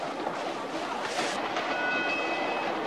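A train rolls steadily along the tracks, a continuous loud rumble, with a faint high metallic squeal rising briefly near the end. No voices are heard.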